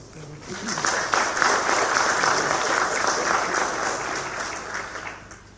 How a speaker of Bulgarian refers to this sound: Заслужени аплодисменти.